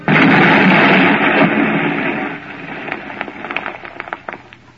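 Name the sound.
explosion sound effect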